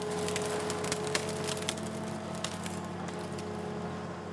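A harvester (timber harvesting machine) cuts down a maple tree with a saw on a long gripping arm, next to the town hall in the streets of Miesbach, over a steady low machine drone, with sharp crackles and snaps of splintering wood scattered throughout. No one speaks.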